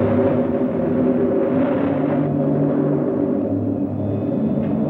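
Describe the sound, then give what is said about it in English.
A violent storm on Venus, carrying sand, roars steadily throughout: a deep, continuous rumble, dense and loud with churning low tones and no pauses, like heavy wind and thunder blended into one unbroken wall of sound. “The long Venusian night is always preceded by a violent storm.”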